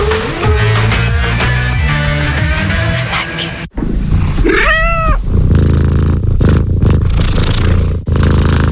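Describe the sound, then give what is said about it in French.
Music plays for a few seconds, then cuts to a low, steady cat purr that runs to the end, with a single drawn-out meow rising and falling partway through, in an advert for the Ford Puma Gen-E electric car. “Nouveau Ford Puma Gen-E, le félin passe à l'électrique.”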